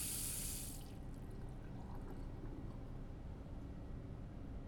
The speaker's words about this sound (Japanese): 便利ですよね、洗面台のハンドシャワー。診療所でいつも助かってるから、自宅にも欲しいんですけど。